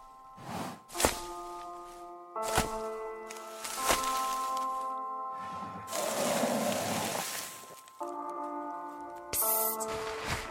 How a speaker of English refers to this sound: The animals stomping around our tent.